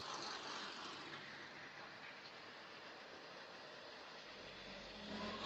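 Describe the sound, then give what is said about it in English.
A thief drives off in a car with a steady, broad roar of engine and road noise that holds at an even level, swelling slightly in low rumble near the end. No one speaks. “So the thief gets in the car to drive away.”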